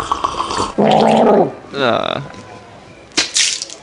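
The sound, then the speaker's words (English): Someone in a restaurant gargles water in a loud, buzzing, bubbly burst, then gargles again with a shorter wavering gurgle that rises in pitch, ending with a sharp spitting splash. “You don't gargle much, do you?”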